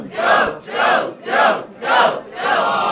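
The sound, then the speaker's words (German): A cinema audience cheers on a film scene in which characters toss a football back and forth, in five rhythmic, chant-like bursts of many voices, evenly spaced about half a second apart, loud, with brief dips between each shout. “Auch hier feuert das Publikum an.”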